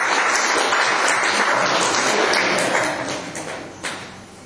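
An audience breaks into sustained applause, many hands clapping together in a dense, crackling wash that holds steady for about three seconds before thinning out into scattered claps.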